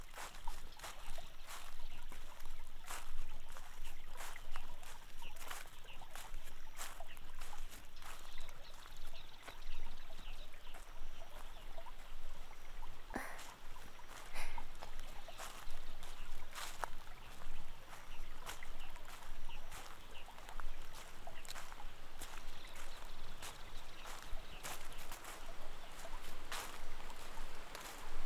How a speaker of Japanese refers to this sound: ああ、もうすぐです。滝がありますでしょ。